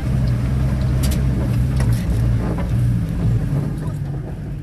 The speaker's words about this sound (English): It's a tight squeeze inside a homemade armored truck with a couple of her fighters driving towards the center of Raqqa.